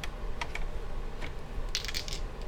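dice rolling

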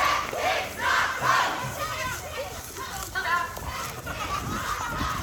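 crowd, rally crowd cheering

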